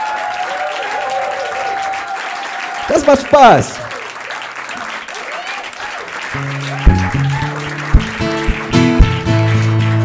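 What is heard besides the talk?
loud audience applause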